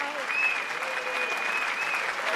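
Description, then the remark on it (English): A burst of canned applause sound effect from a crowd, triggered by pushing a button, steady and fairly loud throughout, with a faint tonal whistle riding over the clapping; no voices stand out. “What a crowd. pushing the button, what a crowd.”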